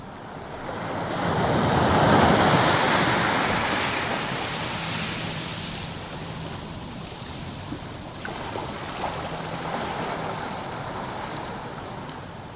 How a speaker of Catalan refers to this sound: Qui no ha experimentat una sobtada relaxació escoltant la remor de les onades a la platja, hipnotitzat per la brisa marina?